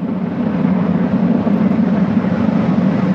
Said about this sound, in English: Engines at maximum thrust. And liftoff. Liftoff of the 67th Progress resupply vehicle bound on a 2-day journey to the International Space Station.